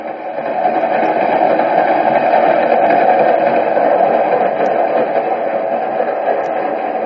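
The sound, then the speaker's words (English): A steady, loud roar of an express subway train running at speed without stopping until 63rd Street, a continuous rumbling drone that holds constant throughout with no voices and only faint metallic ticks. “You can't get off till 63rd Street. This is an express.”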